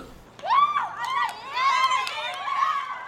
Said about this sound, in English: You want to explain on tape what those sounds are? My fellow classmates, they're cheering me on.